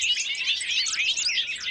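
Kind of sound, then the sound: bird, bobolink song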